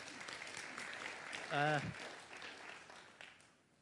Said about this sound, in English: So you can give a little round of applause, that's okay.